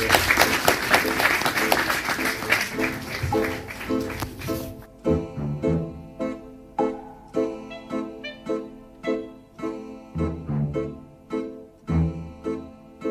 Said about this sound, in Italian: Nessuno abbandona in questa sala. Beh, già l'applauso è stato incoraggiante. Nessuno è scappato durante il film.